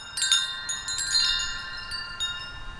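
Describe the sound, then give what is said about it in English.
Musically tuned wind chimes, a prototype for a larger chime installation, ring out in bright, overlapping metallic tones on a stone pathway in North Main Street Park, Eureka Springs, struck several times in an irregular flurry, each note sustaining and shimmering. Clear, with no voices. “walks along a stone pathway with one of his musically tuned wind chimes.”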